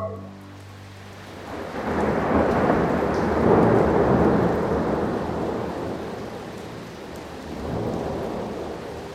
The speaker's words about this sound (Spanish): De 2 horas que está lloviendo.